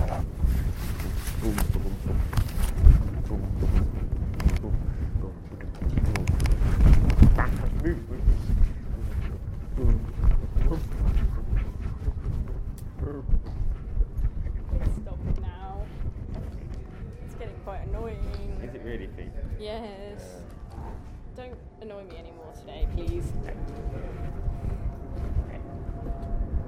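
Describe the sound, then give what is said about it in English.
A voice imitates an aeroplane going into Heathrow with a sustained, low, rumbling drone and breathy, wind-like rushing. It carries on steadily for nearly half a minute, its pitch wavering and sliding in the later part. “I'm doing a plane impression.”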